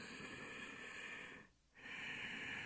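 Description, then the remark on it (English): Ujjayi yoga breathing, a slow, hissing breath through the throat with the lips closed: a long breath, a brief pause, then another long breath, steady and ocean-like with no talking. “So Ujjayi breathing, practice anytime, day or night, and don't worry, people on the outside really can't hear you.”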